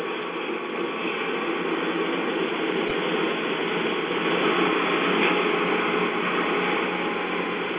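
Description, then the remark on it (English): A passing train fills the whole stretch with a steady, dense mechanical rumble and rapid clattering, holding an even loudness throughout with no voices. “oh no, I've got a train going, stand by.”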